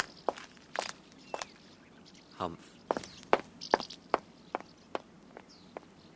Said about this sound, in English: What happened to my footsteps? They just faded away. Phew, they're back. That's better.